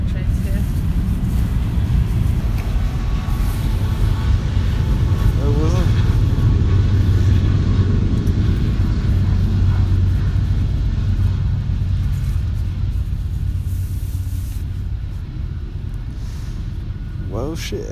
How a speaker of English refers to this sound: Wow, that's a long train.